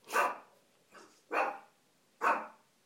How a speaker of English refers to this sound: Someone just posted some... put some letters through a post box and the little one's barking. You can tell it's a pretend bark.